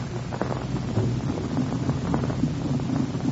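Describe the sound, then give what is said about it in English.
The two powerful engines of a huge propeller airliner, the Golden Dragon, idle softly before its first test flight, the propeller blades lazily turning over, in a steady, low rumbling drone with a soft throbbing hum and some airy noise, continuous throughout, no voices. “They are about to take off on their first test flight, and the two powerful engines are softly idling, the propeller blades lazily turning over.”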